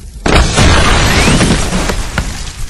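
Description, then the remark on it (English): A gas store building on the far side of the road suddenly explodes in flames with a loud burst after a brief pause, followed by a sustained roaring rumble with scattered crackles and debris-like pops slowly fading over a few seconds. “From the size of the explosion and the color of the flames, it was obviously a gas store.”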